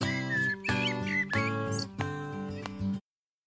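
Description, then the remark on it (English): Short, high squeaky bird chirps flit over a strummed musical track with steady low tones, several quick warbles early on, before the music cuts off abruptly. “Do you hear the birds squeaking?”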